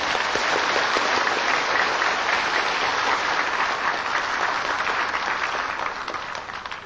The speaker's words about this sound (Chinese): 请在热烈的掌声恭请师父开始。